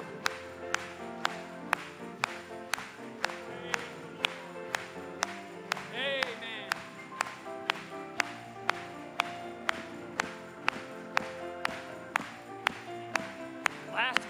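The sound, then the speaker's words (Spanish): An audience claps in steady unison, sharp regular beats about twice a second, over a backdrop of music and singing voices throughout. “Vamos a aplaudirle.”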